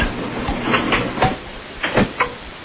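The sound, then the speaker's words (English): A sneaker and a shoe tumbling in a running clothes dryer with other clothes: a steady mechanical rumble with irregular, uneven thumps and bangs, several in quick succession, no voices. “Put a sneaker and a shoe in the dryer. Run it, yeah. Let us hear it tumble.”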